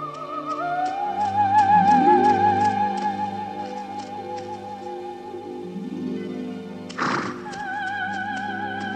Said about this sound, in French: Dans la forêt, ce même jour, le prince Philippe, qui avait maintenant 19 ans, se promenait par les sentiers, monté sur son fidèle cheval Samson.